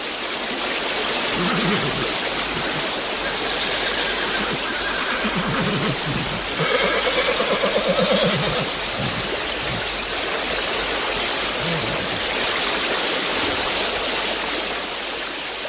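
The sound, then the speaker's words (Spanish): The fast current of the Moldava river roars steadily throughout, sweeping away a horse and its rider, and partway through the horse lets out a loud, shaky whinny over the churning water. No one speaks. “Iba montado en un caballo, y en cierto momento el animal resbaló, y la veloz corriente arrastró al caballo y al jinete.”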